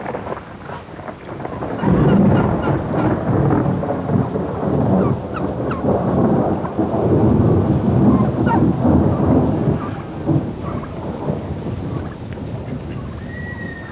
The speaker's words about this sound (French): aux premières pluies de mousson, quand on voit arriver ce qu'on appelle les éléphants de la pluie